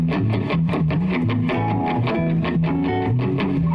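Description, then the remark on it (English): A loud, heavily distorted electric guitar riff played with a band, dense and driving with steady rhythmic accents, filling the whole clip with no talking. “Can you be more distorted”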